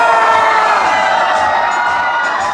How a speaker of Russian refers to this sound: Давайте и мы встретим традиционный праздник в любимом ресторане аплодисментами и веселыми криками.